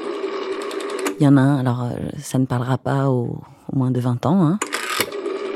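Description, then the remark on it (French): A rotary telephone dial whirs with a rapid, even ticking, once at the start and again at the end, while a man speaks in between. “Le téléphone à cadran qui fait brrr, brrr.”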